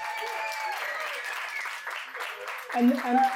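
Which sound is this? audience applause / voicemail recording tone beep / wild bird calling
audience applause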